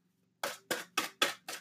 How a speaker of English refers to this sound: I don't want to hurt your ears with the shuffling, but I want to really drive home the fact that I'm shuffling. Let's just pull some cards for Aries, and I'm just going to keep it moving, keep it funky.